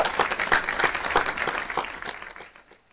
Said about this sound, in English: So can I get an applause for that? Yes, we can. Yes, we can.